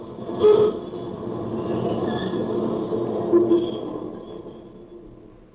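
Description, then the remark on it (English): A subway train rolls along the rails with a steady, heavy rumble and faint high metallic squeals drifting over it, continuous throughout, with no voices. “Well, do you mind if I ride with you on the subway?”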